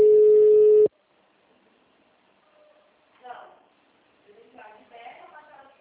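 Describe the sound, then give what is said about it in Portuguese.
A loud, steady electronic telephone ring sounds once for under a second and cuts off abruptly, followed by a pause and then soft, muffled voices talking. “Aí deixa eu você. atender o telefone aqui, só.”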